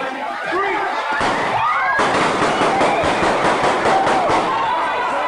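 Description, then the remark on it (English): A single sharp gunshot from a man firing into a crowd of kids at a back-to-school event in Titusville, Florida, then a rapid burst of seven or eight shots from an armed bystander, loud, over a noisy crowd with people shouting and talking. “So you heard the one gunshot, and then you heard a bunch of others, right?”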